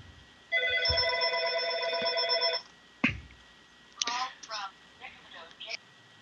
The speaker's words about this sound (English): Yeah, phone call, okay.